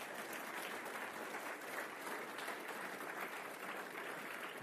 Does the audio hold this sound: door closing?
no